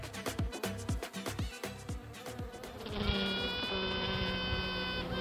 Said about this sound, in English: The sound of a queen bee piping, a battle cry to any other queen bees in the hive to clear out.